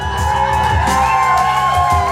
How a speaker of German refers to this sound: Der wütende Mob war erfolgreich abgelenkt.